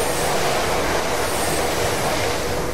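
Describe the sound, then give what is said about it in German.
A subway train arrives at a platform with a loud, steady rush of rumbling, hissing noise that fills the whole moment. No voices are heard. “Dann die nächste U-Bahn, ne?”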